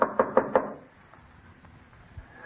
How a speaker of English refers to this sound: Where's that blasted bell? Oh, it was out of order when I was here. I had to knock.